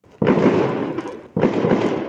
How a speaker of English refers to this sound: And just so you know, the start of this report does include the sound of fireworks.